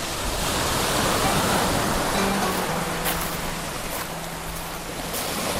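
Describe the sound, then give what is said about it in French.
A steady, continuous wash of waves breaking on a rubbish-covered beach in the far north of Lebanon, fairly loud, with brief swells of spray and a faint low hum in the background. “C'est de l'une de ces plages que partent les bateaux.”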